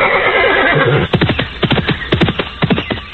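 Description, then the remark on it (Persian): A horse lets out a loud whinny, followed by a quick series of sharp hoof thuds and stamps in uneven rhythm, with no one speaking; two horses, one white and one brown with long manes, stamping and neighing together on a large green plain. “در دشت بزرگ بی سر و بی پا، سبز و با تراوت، دو اسب سفید و نسواری با یالهای دراز و زیبا با یک دیگر آمیخته، سم می کوبند و شیره می کشند.”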